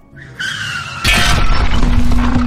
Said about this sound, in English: A taxi cab has just crashed through the theater wall onto the stage, taking out several contestants.